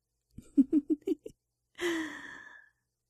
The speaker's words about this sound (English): I can hear you breathing, big brother. You're trying to breathe quietly, but I can hear it. I have very sensitive ears. You sound scared. You're breathing fast and you sound scared.